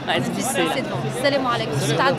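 crowd

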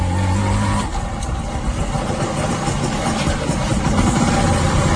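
motorcycle engine idling

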